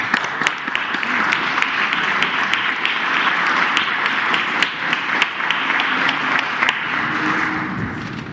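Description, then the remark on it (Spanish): A crowd applauds representatives of the National Minimum Wage Commission steadily for about eight seconds, a dense, even wash of many hands clapping at once with sharper individual claps poking through, tapering slightly near the end. “Un aplauso.”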